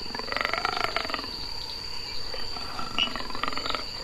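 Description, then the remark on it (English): A leopard's guttural growl, captured by recording equipment left running unattended, comes in rough, rasping bursts, one early and another near the end, over a steady high-pitched insect drone. No one speaks. “I hear my footsteps disappear, and moments later, there's the guttural growl of the leopard.”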